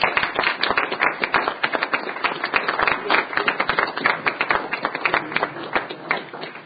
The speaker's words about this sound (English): Could we give them a round of applause and welcome them to the chamber?